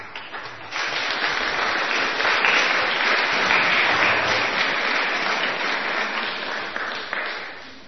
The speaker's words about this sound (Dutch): Ik wil jullie van harte welkom heten bij het grote event hier in de NGK, namelijk de NGK You've Got Talent. En ik wil graag een hartelijk applaus voor onze jury.